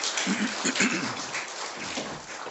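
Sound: applause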